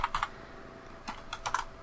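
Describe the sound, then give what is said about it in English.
Rapid, uneven keystrokes clatter on a computer keyboard, fairly quiet, with clusters of clicks separated by short pauses and no voices. “I'm typing.”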